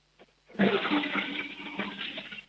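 A toilet flushes with a sudden loud rush of water that keeps churning steadily for about two seconds, close to the microphone, with no voices.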